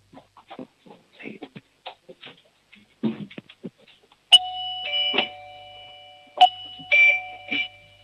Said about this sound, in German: Eine tolle Türklingel